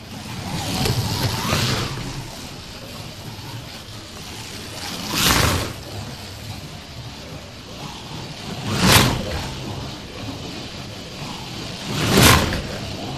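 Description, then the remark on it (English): A Formula One slot car whirs steadily on a slot car track as it is driven at full throttle down the straight, swelling into three quick whooshing passes roughly every three to four seconds, fairly quiet overall with no talking. “Right, now, so that was a Formula One. Now we're going to the V8 slot car sound.”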